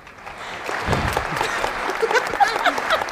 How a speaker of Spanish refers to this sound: si vamos por este plan con los aplausos, no acaba el programa, hay que hacer cortes verdad, y tal.